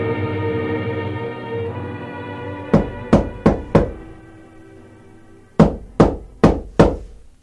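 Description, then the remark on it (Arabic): Two sets of four sharp knocks on a door, evenly spaced, the second set after a short pause, heard over a low sustained musical drone with no one speaking. “وما أن هممنا بالفطور وإذا بصوت الباب يطرق.”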